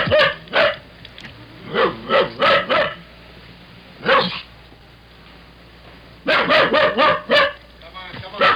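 A dog locked in a car barks over and over in sharp bursts, sometimes singly and sometimes in rapid runs of three or four, loud, with a low steady hum underneath.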